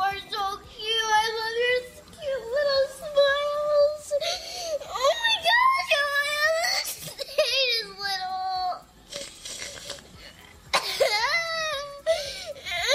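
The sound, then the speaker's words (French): A five-year-old girl cries and sobs continuously, her wailing, high-pitched voice rising and breaking in long tearful bursts with gasping breaths between, loud throughout. “une petite fille de 5 ans, …, en larmes, parce qu'elle vient d'apprendre que son petit frère, un bébé, va grandir”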